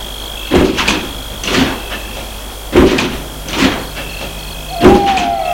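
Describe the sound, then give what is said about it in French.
Car doors open and shut in a series of five solid clunks spaced about a second apart as people get out of a car in front of a villa in a quiet spot near Versailles, over a faint steady high whine of insects in the background. “Devant la maison, ils sortent de voiture.”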